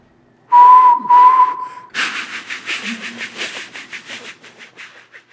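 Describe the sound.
A voice imitates a steam train, giving two loud, steady whistled toots followed by a run of rhythmic, hissing chuffs that gradually soften.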